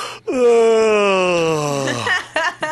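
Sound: voice imitating a yawn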